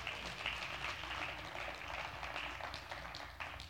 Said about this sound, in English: Clap your hands and say amen.